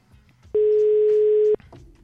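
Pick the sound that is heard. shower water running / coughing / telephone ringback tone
telephone ringback tone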